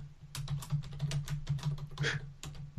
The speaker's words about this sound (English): Listen to you typing away.